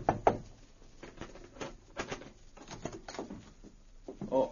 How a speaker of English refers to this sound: Then he went to the Yukon Hotel, where Guthrie and Metz were registered. He knocked on the door of their room.